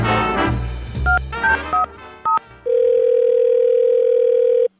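A short burst of busy sound gives way to several quick telephone keypad beeps, then a loud, steady telephone tone that drones for about two seconds before cutting off, as a Power 93.5 radio host calls the owner of Pinky the dog about the dog's unusual DNA test results.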